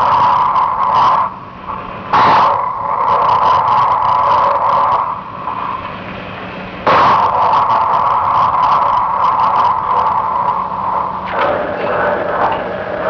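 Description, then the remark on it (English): Recorded volcanic explosions from Ruapehu's eruption in mid-1964: sudden explosive bursts, two sharp ones and a softer third, each opening into a sustained, loud roaring rumble that carries on steadily between blasts, preceding tremor outbursts, with no voices present. “These explosions preceded tremor outbursts during Ruapehu's team eruption mid-1964.”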